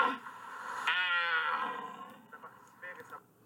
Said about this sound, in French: Les gens croient que le cerf, il fait ça pour attirer les biches. Alors que non, en fait, c'est prise de territoire. Il lutte face aux autres cerfs pour justement prendre plus de biches. Comme ça, il peut s'amuser plus, entre guillemets.